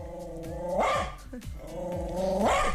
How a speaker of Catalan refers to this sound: Ha arribat. És ell o no? Aquest gos...